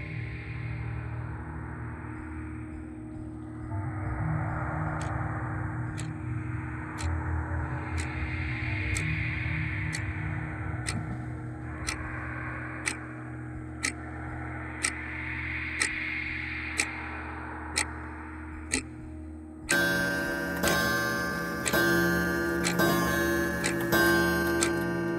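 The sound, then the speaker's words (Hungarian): A wall clock on the left of the wall ticks at a steady one-per-second pace, its sharp clicks standing out over a constant low hum and drone; the background shifts to a denser, buzzing texture near the end. “Ott balra kell lennie egy órának a falon.”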